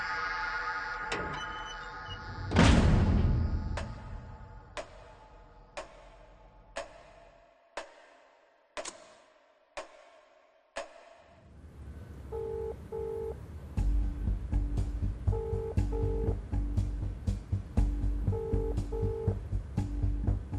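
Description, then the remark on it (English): A phone call from a prison inmate to his mother ringing unanswered: a run of sharp keypad taps and clicks, then a repeating double-pulse ringback tone over a low hum, cycling several times with no one picking up. “I tried to call my mom for 3 times. She did not answer the phone lah.”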